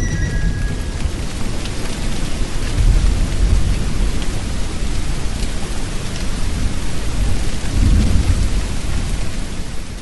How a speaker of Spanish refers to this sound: Con la luz del día notaron que había pasado sobre ellos una gran tormenta, dibujándose entre las nubes grises y el azul celeste un hermoso arco iris.